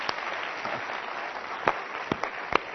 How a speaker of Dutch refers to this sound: En zij zijn bijbelschoolstudenten bij ons. Geef hen even een applaus.